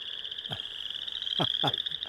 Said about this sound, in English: You know, I love to hear the chorus frogs. Mm-hmm. That's always... Oh, there we go.